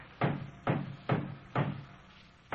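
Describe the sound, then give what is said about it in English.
Repeated hollow wooden knocks: a board that is part of a prop or scaffolding is struck against another board to knock it loose, about every half second, five blows in a steady rhythm, moderately loud with no talking. “That board you're hitting there might be holding up the whole roof.”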